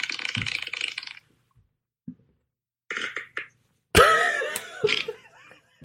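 A run of loud, raspy fart noises in three bursts separated by short silences, the last one longest and most sputtering, with no talking over them.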